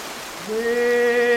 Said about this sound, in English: Inauspicious beginning, beautiful stream by a lake. But you know, everything has to begin somewhere. So we're here at the beginning of the Mississippi.